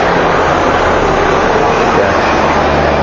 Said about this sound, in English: Oh yeah, I'm still in Haiti, still close to the helicopters.